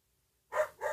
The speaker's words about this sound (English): Sorry, my dog's going nuts, like Amazon's here or something.